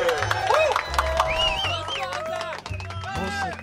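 A crowd of Florianópolis supporters at the Garota Lambisgoia pageant cheers and shouts loudly for their city's candidate, with whoops, whistles and some clapping blending into a continuous roar that holds steady for the whole stretch.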